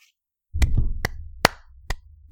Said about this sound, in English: That's me clapping and accidentally hitting the microphone at the same time. So that's probably not going to work very well in an audio podcast.